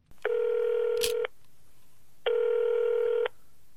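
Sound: telephone dialing and ringing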